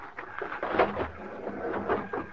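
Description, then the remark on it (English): Someone pounds on the door of a train's baggage car at a depot: a run of dull, muffled thuds in an uneven rhythm, not loud, with no voices. “And pounded on the door on the other side.”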